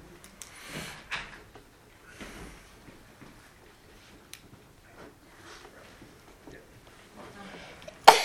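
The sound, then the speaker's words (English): A single sharp sneeze bursts out loudly at the very end, after several seconds of quiet room noise with faint murmuring voices and small knocks in the background. “Bless you.”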